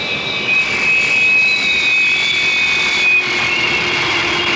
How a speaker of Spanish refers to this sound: El soberbio avión de retropropulsión especial rueda ya sobre la primitiva pista